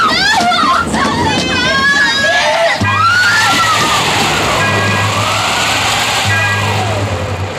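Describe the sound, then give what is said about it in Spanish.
Rough sea water sloshes and surges loudly and continuously during a storm, with agitated voices shouting encouragement at the start as people cling on to avoid being swept into the sea, then a steady low rumbling drone beneath the churning water. “Al día siguiente, la tempestad ha cesado.”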